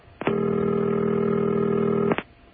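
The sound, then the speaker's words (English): A single deep, low-pitched telephone ring heard over the line during a call to directory information in New York, a steady buzzing tone lasting about two seconds that starts and stops abruptly, with no one speaking. “Nice deep baritone ring there.”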